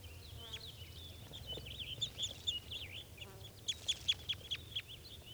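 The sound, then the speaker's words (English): Birds perched in a low spruce give thin, high chirping calls, scattered at first and then a quick run of five or six sharp notes near the end, over a low steady hum. “So recording, those birds are calling a little bit. They're just perched in a low spruce.”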